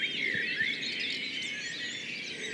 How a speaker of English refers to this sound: Listen carefully, and you can hear wood pigeons, a blackbird, a wren, robins, and blue, grays and coltits. There may be a thrush and a goldfinch in there too